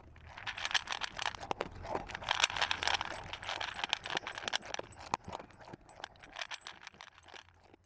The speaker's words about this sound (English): And then another favorite and very satisfying sound is a dog eating supper from a steel bowl.